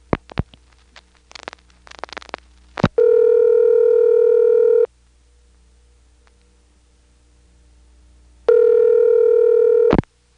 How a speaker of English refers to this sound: We've gone into the NX1 in the same building, and it's almost as if we're dialing from an NX1 line. Here, I'll dial the rest of the number for the time. And unlike from the tributaries where you couldn't hear any NX1 noises, from here, you can.